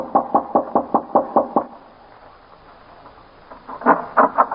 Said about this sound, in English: So I went up to the main house, knocked on the door.